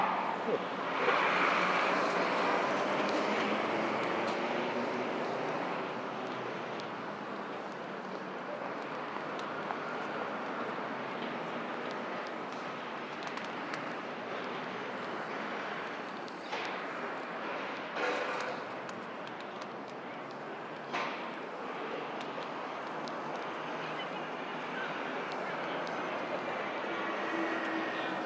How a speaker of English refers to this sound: Traffic noise, building noise from high up above the street. This is one of the areas which is benefiting, maybe, from London's skyscraper boom.